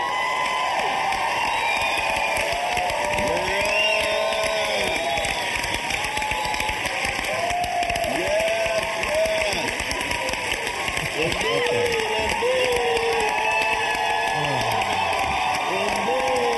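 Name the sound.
audience cheering and applause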